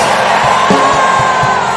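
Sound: audience shouting hallelujah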